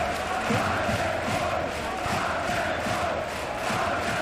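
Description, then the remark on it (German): A large crowd of nearly 9000 spectators in a hall roars and cheers continuously, half for home side Kiel and the rest for the underdog. It is a dense, loud wall of voices with occasional shouts rising out of the din, sustained without pause. “Die Hälfte brüllt für Lokalmatador Kiel. Der Rest der Halle schlägt sich auf die Seite des Außenseiters.”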